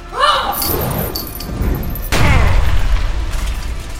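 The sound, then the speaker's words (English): A person's body, wrapped in burning chains and wrenched from the air, slams down with a loud, booming thump midway through, following a swirling whoosh and faint chimes, then a rumbling, crunchy tail that lingers to the end. No one speaks. “I crashed down with a smoldering, agonizing thump.”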